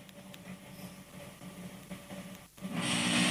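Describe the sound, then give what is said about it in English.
A voice imitates a hotel room's air conditioning unit, which went off every 3-4 minutes, holding a low, steady droning hum for a few seconds before breaking into a louder, sustained rushing whoosh of air near the end. “but all I could hear was the air conditioning unit every 4 minutes do this.”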